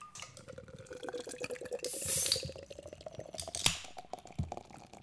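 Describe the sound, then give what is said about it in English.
A can of Guinness stout pops open with a bright fizzing hiss while beer glugs and gurgles steadily into a glass, rising in pitch as it fills; no one speaks. “Time to crack open the Guinness.”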